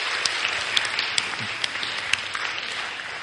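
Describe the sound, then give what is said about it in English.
A crowd applauds steadily, dense overlapping claps forming a continuous wash of sound with a few sharper individual claps standing out, sustained at moderate loudness throughout. “Round of applause.”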